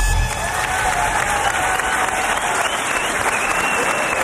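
Sustained applause and a low crowd murmur from a live quiz-show audience at the Guggenheim Museum, reacting to a contestant answering all 10 questions; a dense, steady crackle of many hands clapping, holding at an even, fairly loud level throughout with no talk over it.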